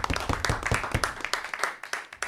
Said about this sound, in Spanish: Ahí está, ahora sí, fuerte el aplauso.